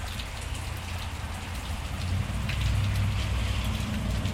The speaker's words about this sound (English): It's raining, but hey, rain is so much better than snow.